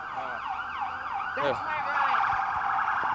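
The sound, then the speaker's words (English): An emergency vehicle siren wails steadily, its pitch sweeping up and down in repeated rising and falling cycles, loud and continuous throughout with a brief burst of other noise midway. “Oh, I thought it was a cop. I usually say it for cops.”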